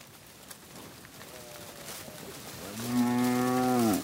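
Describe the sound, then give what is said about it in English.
A cow moos loudly, one long harmonic bellow rising then falling, preceded by a fainter moo, against a steady outdoor background hiss, as cattle are moved along a trail across the plains. “I eventually bargained my way onto the cattle trails, moving another man's investment bit by bit across the plains.”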